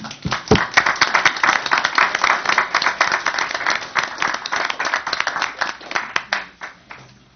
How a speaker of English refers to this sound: Now we can applaud.